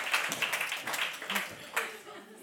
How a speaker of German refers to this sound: Vielen Dank für euren Applaus.